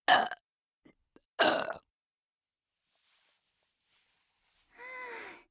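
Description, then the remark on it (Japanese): A girl burps right into the listener's ear: two loud, short warm burps separated by a few faint mouth clicks, followed after a quiet pause by a longer, throaty, drawn-out belch. “あったかいゲップ。”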